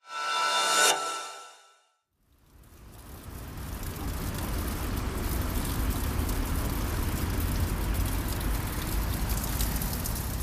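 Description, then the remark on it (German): After a brief tonal sound and a short pause, a steady, dense patter of dripping and trickling water runs down a brick lattice wall, continuous and fairly loud to the end. The wall is the roughly 4-metre-high circular brick lattice of the Windfänger in St. Pölten, which wind passes through. “Es ist ein Ziegelgitter, durch das der Wind streicht und an dem permanent das Wasser heruntertropft.”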